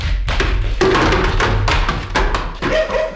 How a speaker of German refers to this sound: Er hatte eine Stufe nicht beachtet, war gestolpert und in einen Haufen Fässer gefallen. Unter lautem und dumpfem Gepolter kullerten sie dahin.